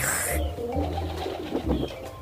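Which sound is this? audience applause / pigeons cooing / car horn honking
pigeons cooing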